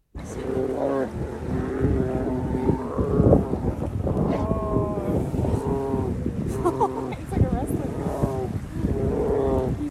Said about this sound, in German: Untereinander, naja, da ging es auch schon mal etwas härter zu. Ich spiele euch mal vor, wie das klingt, wenn sich zwei Bären ins Fell kriegen.